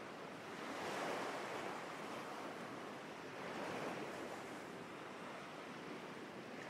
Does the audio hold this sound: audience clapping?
no